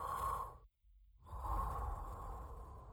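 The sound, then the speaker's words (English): Heavy, hissing breaths drawn through spacesuit breathing equipment, each long inhale and exhale broken by a brief pause, mechanical-sounding with a filtered, whooshing tone. “And you can just hear them heavy breathing through their space breathing equipment.”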